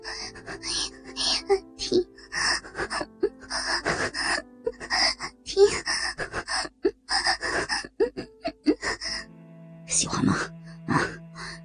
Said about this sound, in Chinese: 如一只快要溺毙的鱼，仰着头喘息着，发出微弱娇媚的呻吟。